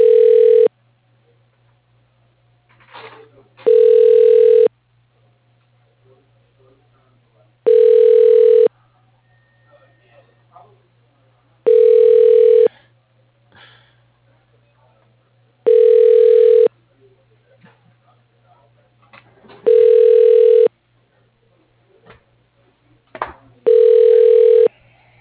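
A phone line rings out on a call to Jet Distribution Services, seven evenly spaced rings roughly every four seconds, each a bright buzzing tone, over a steady low hum with faint rustles between rings.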